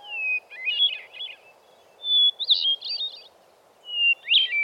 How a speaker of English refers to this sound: That's why you rarely see a hermit thrush out in the open. But you do hear him.